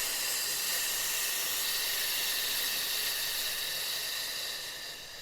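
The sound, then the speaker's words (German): A long, steady exhale pushed out as a sustained "fff" hiss during a belly-breathing exercise, breathy, holding evenly for several seconds before tapering off at the end. No talking. “Und auf F wieder ausatmen.”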